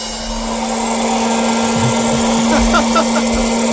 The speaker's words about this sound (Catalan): I després apreto l'interruptor, és molt silenciosa i molt agradable de portar. És una màquina silenciosa? Sí, elèctrica, con ventilador, con turbo, turbina, palomitera.